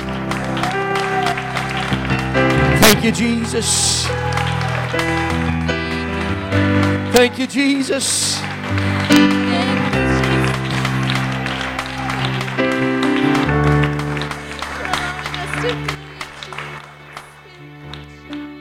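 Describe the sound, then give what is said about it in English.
An audience at a church service applauds the Lord steadily for several seconds, the clapping blending with sustained organ or keyboard music while a voice calls out over it. “Why don't you applaud the Lord right now for his goodness?”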